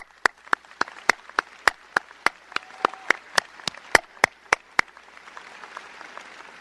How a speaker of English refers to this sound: You're surrounded by family members and friends who have helped you make it this far. And we all think they deserve a great round of applause.